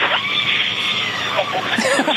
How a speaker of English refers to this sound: Hear that screaming inside the capsule?